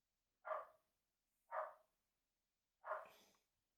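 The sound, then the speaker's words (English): Three sharp dog barks ring out at a steady, unhurried pace, each a loud, short burst separated by about a second of quiet, with no one talking. “Well, my dog is obviously angered by JavaScript”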